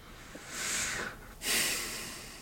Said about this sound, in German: Ich bin ganz erleichtert. Ich schnaufe schon wie so ein, ich bin total erleichtert bei dieser Aussicht.